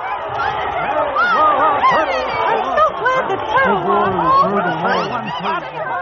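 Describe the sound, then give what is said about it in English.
A crowd of many voices cheers and hollers at once, a loud, dense wall of excited shouting that keeps going without a break for several seconds, as a turtle wins a race against a rabbit. “Listen to the crowd go wild!”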